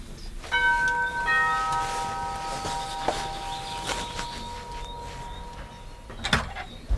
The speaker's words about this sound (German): Es ist die erste von einigen Klingeln, die ich drücken werde, auf der Blumenstock steht.